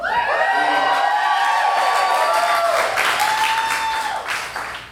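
A live show crowd bursts into sustained applause for Alec McElroy, with loud cheering and high-pitched whoops and screams riding over the clapping, holding steady for several seconds before starting to taper off.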